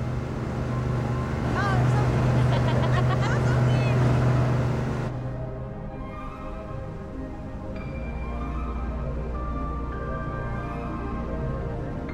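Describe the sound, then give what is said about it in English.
A boat motor drones steadily on the water, a loud, continuous low rumble with wind and splashing noise. Its pitch shifts partway through, and faint indistinct voices rise briefly early on. “rides on the boat.”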